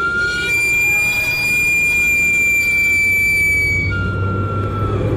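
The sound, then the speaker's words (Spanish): A Mexican camotero's street sweet potato cart steam whistle shrieks in one long, steady, piercing tone with bright harmonics, holding loud for about four seconds before fading, over a low rumbling hiss of steam. “¿Quién no ha salido corriendo con una moneda en la mano al escuchar el chiflido del camotero?”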